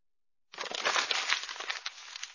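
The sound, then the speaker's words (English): Paper is crumpled in a steady burst of dry, crackling rustles that starts suddenly and continues for about two seconds, fairly loud, with no voices. “Paper.”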